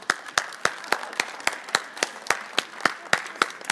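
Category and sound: crowd, audience applause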